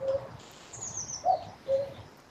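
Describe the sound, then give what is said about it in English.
A common cuckoo calls in short two-note hoots, repeated a few times with gaps between, clear over faint rain-like background hiss and other birdsong. “So everybody thinks it's saying cuckoo, right?”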